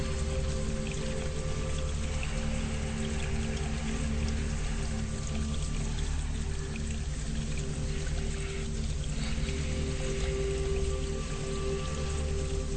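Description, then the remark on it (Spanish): Steady, continuous rush of a stream flowing over stones in a forest clearing among trees, filling the scene at an even level throughout with a low droning hum beneath it and no voices. “Estás en un claro, en un bosque, árboles, un arroyo, piedras, lugar bello y hermoso.”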